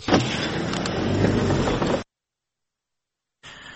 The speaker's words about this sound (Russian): О, машина!